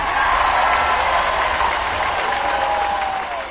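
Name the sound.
enthusiastic applause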